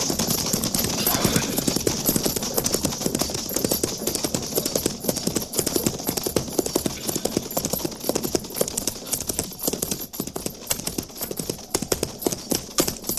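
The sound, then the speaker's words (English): Steady clip-clop of the hooves of a single horse rider approaching, a dense rapid rhythm of sharp strikes that stays loud throughout, with no voices over it. “Captain, single rider approaching.”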